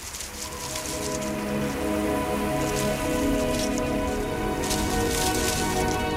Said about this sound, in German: Hören Sie die Blätter fallen?